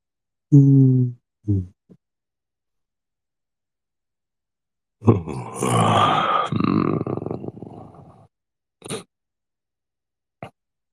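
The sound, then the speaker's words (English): A couple of short voiced grunts, then a long, breathy yawn that swells and trails off over about three seconds, followed by a few faint clicks and a brief exhale. “I'm yawning too.”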